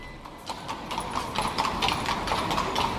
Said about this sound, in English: Or you could see Vienna from the back of a horse-drawn carriage. There must have been 30 queued up at an equine taxi rank in the impressive Michaelerplatz, the square in the centre of the city.